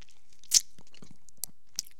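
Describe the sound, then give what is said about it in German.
Crunching and chewing of food by a person trying and failing to swallow, with a sharp loud crunch early on and a few smaller crisp bites after, no talking. “Ich wollte runterschlucken, es hat nicht geklappt.”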